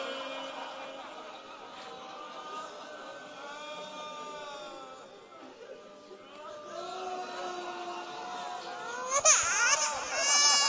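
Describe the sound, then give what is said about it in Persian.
A baby cries in long, wavering wails that rise and fall, growing louder and more strained toward the end, with a faint background hum. “گریه نکن عزیزم که قلب من میگیره،”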